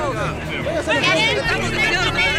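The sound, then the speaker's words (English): A dense crowd of angry demonstrating employees shouts and clamors at once, loud, with raised, agitated cries rising over a continuous roar of overlapping yelling, as they surround the company president and police try to clear a path for a truck. “But now he's surrounded by a mob of angry employees.”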